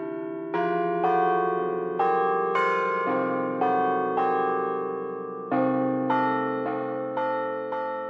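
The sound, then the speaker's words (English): The bells of the Purdue Bell Tower ring out in a steady sequence of loud, resonant strikes, each tone overlapping the last as they chime a melodic pattern with long ringing decay, no voices present. “Cheers to 25 years of the Purdue Bell Tower, which symbolizes the university's persistent pursuit to reach one brick higher.”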